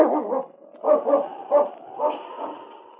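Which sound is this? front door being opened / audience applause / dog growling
dog growling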